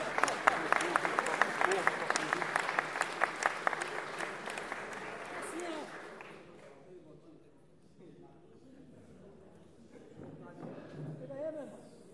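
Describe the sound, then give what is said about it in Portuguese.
An audience breaks into a dense round of applause for a composer from Rio de Janeiro, loud and steady for about six seconds before it fades out, leaving quieter talking and murmuring voices. “Você é uma salva de palmas, meu irmão.”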